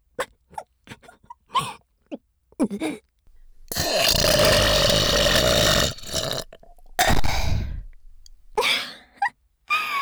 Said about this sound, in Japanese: 笑いすぎてゲップ出ちゃった。うわ、くっせ。